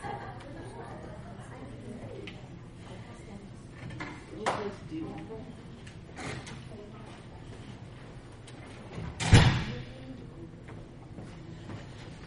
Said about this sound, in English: I'm going to shut the door and then we'll get rolling.